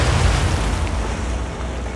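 A heavy explosion roars with a deep, booming low rumble that stays loud and sustained for the whole moment as the ironclad warship USS Tecumseh strikes a torpedo in Mobile Bay during its duel with Fort Morgan, with no voices.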